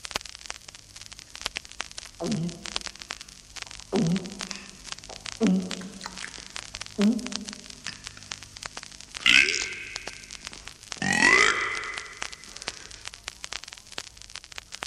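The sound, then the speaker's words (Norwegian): A run of about six loud burps from a soda burping contest with relay in Vestre Slidre, Norway, reported on Flåklypa local radio, evenly spaced every second or two, the last two longer and rougher, all over a steady crackling, staticky hiss with no talking. “En reportasje fra den store konkurransen i brusrap med telløp i Vestre Slidre i går.”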